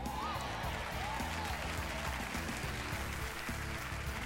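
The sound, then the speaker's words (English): A crowd applauds steadily in response to preacher John Gray, a dense, continuous wash of clapping that holds the same level throughout, with a faint whistle or cheer rising briefly above it. “I'm going to repeat that because some of y'all didn't clap because you don't believe that God can take care of you better than a retirement plan.”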